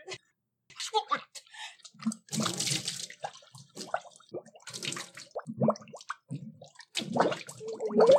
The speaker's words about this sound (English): And who wants to see somebody swish a glass of water around? Nobody.